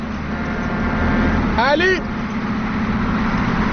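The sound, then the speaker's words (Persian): A single short car horn honk, roughly half a second, given to a broken-down car to ask whether its driver needs help, sounds over a steady low engine rumble from inside a moving vehicle. “بذار شل کنم یه بوق واسش بزنم ببینم کمک میخواد یا نه.”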